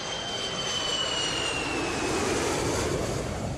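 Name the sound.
airplane engine in flight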